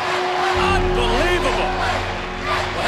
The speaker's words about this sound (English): Hang on a second here, folks. We might just have the championship game yet. Listen to this crowd.